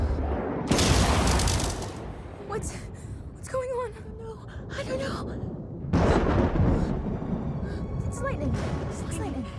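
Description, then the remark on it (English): Two loud, crackling booms of thunder from lightning flashes over a forest clearing, the first lasting over a second and the second a few seconds later, with people speaking briefly and anxiously between them. “It's lightning, right?”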